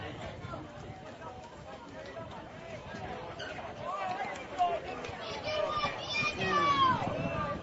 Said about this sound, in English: You can hear the Flatonia crowd really getting into it now as they've taken momentum back from this game.